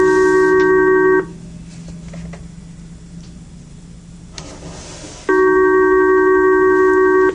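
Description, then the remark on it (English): A telephone rings twice, each ring a loud, steady electronic tone lasting about a second or two, separated by a long silent pause of roughly four seconds. No one speaks. “Unfortunately, this is a phone that but periodically I think we don't have our okay.”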